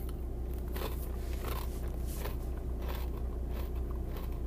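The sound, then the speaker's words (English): Someone bites into a Cape Cod sea salt and vinegar chip and chews, giving a series of crisp, irregular crunches over a steady low hum, with no talking. “I'm going to go ahead and try the chip.”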